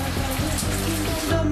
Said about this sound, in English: Under the shower, the man rinses his hair.